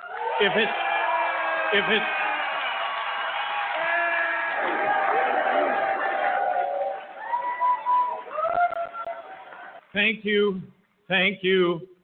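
A loud crowd at a Libertarian Party event cheers and whoops continuously, with overlapping shouts and yells, then breaks into a few short, sharp bursts of cheering near the end.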